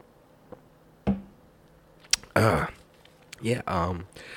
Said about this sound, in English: But, first sip.